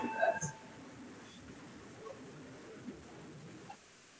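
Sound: parliamentary voting bell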